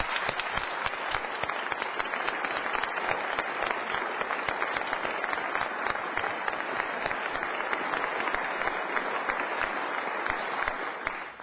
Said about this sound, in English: Let's give them a round of applause, if you would.